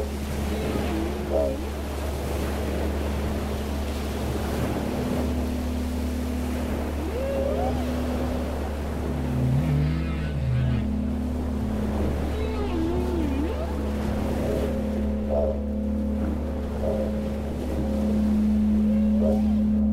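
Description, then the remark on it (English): A continuous wash of ocean surf at a beach at night rushes steadily at moderate loudness, layered over a constant low droning hum, with occasional faint whistling tones drifting through. “Yes, remember the waves, the tides in our great seas and oceans, in unison with the phases of Grandmother Moon and the stars.”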